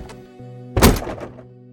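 A door shuts as a man steps out through it, with one solid, fairly loud thunk, followed by a short rattling decay, all over a faint steady low hum.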